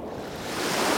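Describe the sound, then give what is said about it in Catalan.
Steady wash of sea waves breaking along the shore, heard from outside a porch facing the sea, a broad continuous surf rumble that swells slightly louder toward the end, with no voices. “Ai, no s'està malament així fora la porxada, eh? De cara a la mar.”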